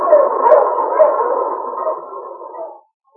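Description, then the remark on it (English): A dog, Sergeant Preston's wonder dog King of the Yukon, howls in one long, sustained wavering cry lasting nearly three seconds, loud, then fades out into silence. “Back to the days of the gold rush, when Sergeant Preston and his wonder dog King battled through storm and snow to preserve law and order as they met the Challenge of the Yukon.”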